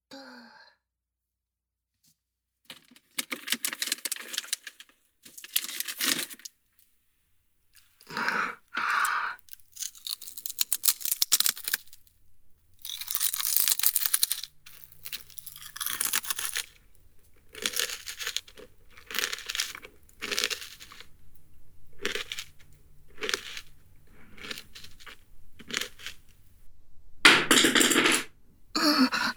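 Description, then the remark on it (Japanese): A bag of potato chips is crinkled and torn open, followed by a long run of irregular crunching and rustling bursts as the chips are eaten, with no talking. “そうだ、ポテチ食べようっと。”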